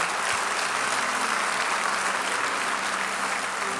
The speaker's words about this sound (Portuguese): Novo Testamento, se quer aplaudir ao Senhor, pode aplaudir.